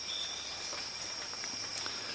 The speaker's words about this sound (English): Also sounds as if it's raining, but it's not, because being tropical rainforest, at this time of day, there's an immense amount of condensation just dripping down from the leaves and the canopy high above.